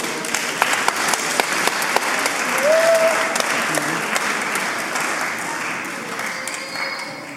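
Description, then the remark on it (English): An audience applauds steadily for several seconds, a dense wash of many hands clapping at once, with a brief whistle-like tone rising out of it partway through before the clapping tapers off. “I think they deserve a round of applause, don't you?”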